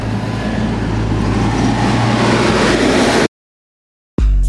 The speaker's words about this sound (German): auf dem Gelände des Seehafens Brake. Riesige Hallen, Kräne, Bagger, Güterzüge. An der Anmeldung sagt man uns, wir sollen gut aufpassen mit unserem Auto, die Züge würden nicht bremsen. Ach ja, und der Gabelstapler, der bremst übrigens auch nicht.